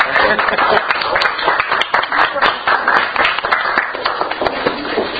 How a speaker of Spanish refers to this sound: Muchas gracias, muy buen trabajo. Bravo. Un aplauso.